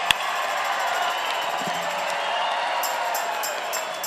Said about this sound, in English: We're going to give y'all a hand. That's right.